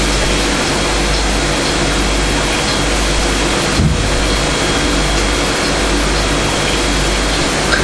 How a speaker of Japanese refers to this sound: バス。うん。とにかくすごいね。大型の車を運転するの。